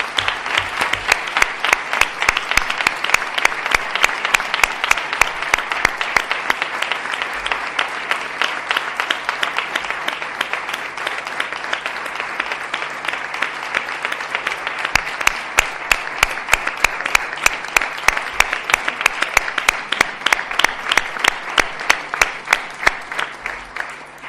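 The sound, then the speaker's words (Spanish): Sustained audience applause as part of a tribute, a dense wash of many hands clapping steadily for over twenty seconds, loud and even throughout with no one speaking over it. “Así que pido el aplauso, por favor, porque este homenaje también es para ella.”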